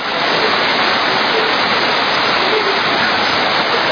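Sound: heavy rain pouring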